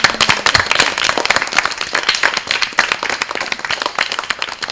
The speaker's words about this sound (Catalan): Què us sembla si ens dediquem tots un aplaudiment? Perquè jo crec que us ho mereixeu, eh?